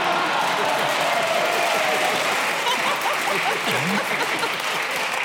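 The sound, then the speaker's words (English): An audience claps steadily for about five seconds, a dense, even wash of applause that holds at full strength without fading, with faint crowd murmuring mixed in. “Well, accept the round of applause and carry on.”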